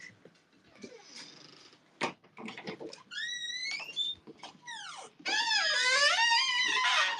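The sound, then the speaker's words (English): A door creaks open as someone leaves a room, with drawn-out, whining squeals that bend up and down in pitch, preceded by a few soft clicks and knocks, ending in a long, loud groan. “These doors are so creaky.”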